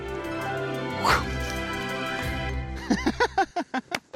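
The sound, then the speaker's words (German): An excited dog yips and barks while rushing toward a person and jumping up at them, wanting a toy, starting with a high whine and ending in a rapid burst of about eight short, sharp barks over a constant low hum. “stürmt auf mich zu und springt freudig an mir hoch. Dabei will er eigentlich nur das Spielzeug.”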